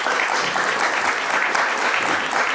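A crowd applauds steadily, a dense and even wash of many hands clapping at a loud, constant level with no voices standing out.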